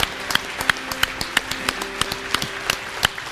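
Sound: audience clapping and cheering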